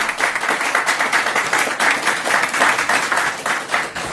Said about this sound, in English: The mayor deserves that award. The economic development work he has done in the city is extraordinary. Let's give the mayor a round of applause.